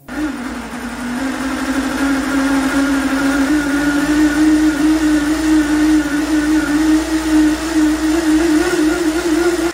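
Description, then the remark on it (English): A RevForce multi-fuel engine, able to run on virtually any type of fuel, runs steadily with a loud, continuous droning hum whose pitch climbs slightly as it settles. It is constant for the whole stretch, with no voices. “What's truly fascinating is that the engine sounds entirely different depending on the fuel it's using.”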